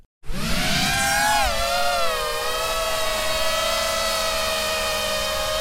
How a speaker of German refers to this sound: Dieses Surren bedeutet an der Front in der Ukraine oft den sicheren Tod. Es stammt von einer kleinen, sogenannten FPV-Drohne, First-Person-View, gesteuert durch eine Brille wie in einem Videospiel.